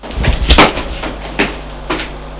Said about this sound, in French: Il ouvre la porte du salon et marche vers le téléphone.